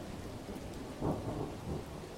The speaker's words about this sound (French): Pendant tout ce temps, dehors, il pleuvait à verse et l'orage grondait.